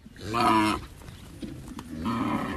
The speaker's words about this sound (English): That is a big grunting cow, weighing nearly 1 ton. And up in Thailand's northern farming country, it's a valuable beast.